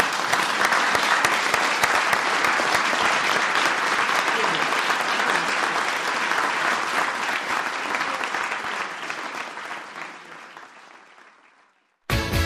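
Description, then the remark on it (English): A large audience applauds steadily, a dense crackle of many hands clapping that holds strong for about ten seconds before gradually fading away, then cuts off abruptly. “And because Jim has been at the very centre of this and one of the architects of it, it's been a magnificent achievement and deserves at very least a round of applause.”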